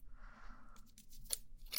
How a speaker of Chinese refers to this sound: 我只要轻轻地用剪刀